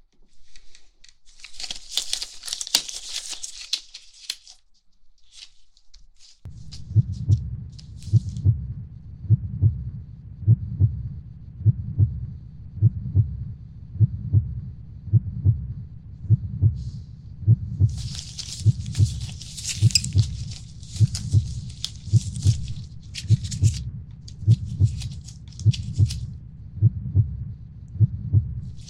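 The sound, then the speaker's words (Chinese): A muffled, steady heartbeat through a stethoscope, thumping regular for over twenty beats, preceded by scratchy rustling of the chest piece, with more crinkly rubbing partway through, as the heartbeat is checked after a vaccine. “疫苗生效了，来测一下心跳。”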